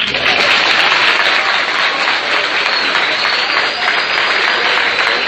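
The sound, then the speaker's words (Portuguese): Sustained audience applause for the group from Açu as they come up: a dense, steady wash of many hands clapping at an even loudness for several seconds, with no break and no voices standing out. “Ou todos agora vão rir, ou aplausos em cena.”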